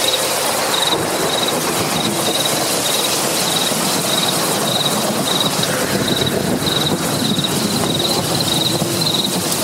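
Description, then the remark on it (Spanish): Steady, dense rainfall hisses evenly throughout, while a high insect chirp, like crickets, pulses in regular bursts above it. No voices. “La lluvia cae sobre la Tierra y como esponja succiona el vital líquido y las plantas lo reciben como una bendición para sus raíces.”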